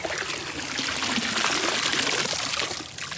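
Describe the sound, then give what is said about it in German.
Water swishes and splashes steadily as a dip net is dragged along the bottom of a shallow pond, scooping up some leaves while searching for tadpoles or newts, a continuous sloshing that swells in the middle and eases toward the end. “Mit dem Kescher fahre ich so ein bisschen am Gewässergrund entlang, versuche immer ein bisschen Laub mitzukriegen.”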